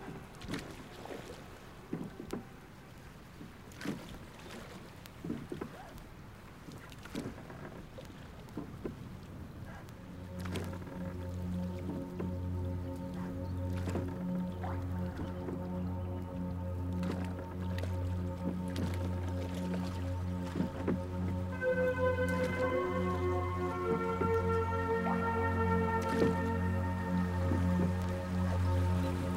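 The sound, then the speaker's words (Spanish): Oars dip and splash through water in uneven strokes, with drips and wet squishes; after a few seconds a steady low drone swells underneath and keeps building, no voices present. “Y allí fueron puestos mientras los cristianos comenzaban a tomar sus remos y, encomendados a Dios, pensaban navegar la vuelta de las islas de Mallorca por ser la tierra de cristianos más cercana.”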